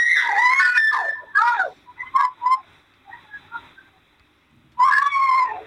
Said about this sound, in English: Because that screaming you hear is what appears to be a much younger child who has somehow encountered this kid on the sidewalk and is screaming bloody murder, trying to get to the safety of his house.